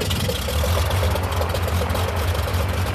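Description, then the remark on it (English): A small propeller plane engine, the first of a dozen small planes starting up at dawn in Tsavo National Park, southeast Kenya, for an aerial elephant census, runs at a rough idle after starting: a loud, steady low rumble with a rapid, even chugging pulse throughout and no voices. “The first of a dozen small planes start up, gathered for an aerial census of the elephant population.”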